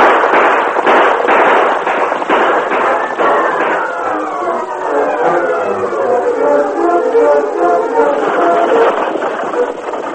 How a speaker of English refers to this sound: Inside the stage coach, Ebenezer was startled when the gunfire was heard.